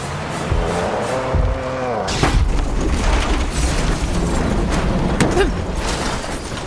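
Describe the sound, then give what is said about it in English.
A truck engine drones, then a heavy crash as the truck is struck towards the rear, knocked completely off the ground and onto its side: a loud booming impact followed by a second jolt, with rumbling noise throughout and faint voices underneath. “The impact came towards the rear and knocked the truck completely off the ground and onto its side.”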